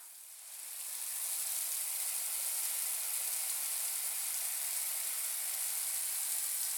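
A steady, bright rush of shower water sprays continuously, swelling in over the first second and then holding an even, hissing roar with no talk over it.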